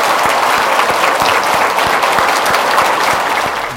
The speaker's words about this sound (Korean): 우리 수고하신 두 분께 다시 한번 감사의 박수를 부탁드립니다.